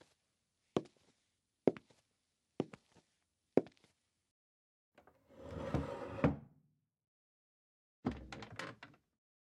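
A door is handled and locked: four sharp, evenly spaced knocks or clunks, then a longer rattling scrape, and a final metallic clatter a couple of seconds later, with no one talking.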